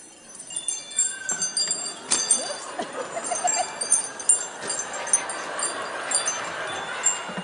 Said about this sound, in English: it's wind chimes. Floating on the breeze, wind chimes. Tickling the trees, wind chimes. The sound of angels, ballet dancing, wind chimes.